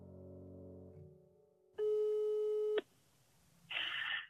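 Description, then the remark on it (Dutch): A telephone dialing tone plays as the number of a second-hand car garage is called: a soft low tone, then a loud steady beep held for about a second, followed by a short burst of line noise. “We proberen uiteindelijk het nummer van de autogarage waar zijn broer nog altijd de eigenaar van is.”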